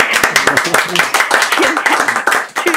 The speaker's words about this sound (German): Dein Applaus.